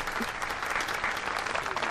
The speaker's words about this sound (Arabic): نعم صفقوا، صفقوا لهن. أيتها السيدات هيا صفقن.